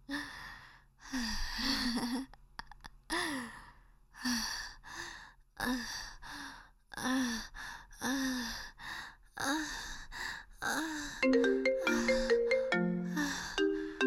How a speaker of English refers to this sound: You better not pick up that phone